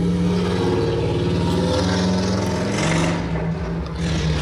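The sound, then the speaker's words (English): A loud motorcycle engine revs steadily, its deep throaty rumble holding and rising slightly in pitch throughout, with no voices present. “That's a real motorcycle.”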